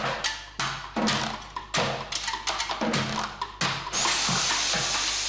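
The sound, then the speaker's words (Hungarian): An impact drill played as a percussion instrument by a music school student at a concert: loud bursts of grinding whir in an uneven rhythm, ending in a sustained high motor whine that slowly climbs in pitch. “Egy fúróval fogok játszani, meg lesznek más különleges hangszerek is, flex, meg lombszívó, meg ilyen dolgok, úgyhogy ilyen különleges hangszereken fogunk most játszani.”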